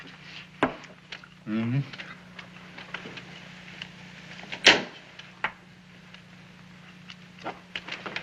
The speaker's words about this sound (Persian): من اون پنجره رو باز کردم.